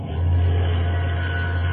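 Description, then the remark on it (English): A deep, steady drone from an ocean liner looming out of the fog, a loud low tone holding unbroken for nearly two seconds over a wash of rumbling noise, with no voices. “Sounds like an ocean liner, right enough.”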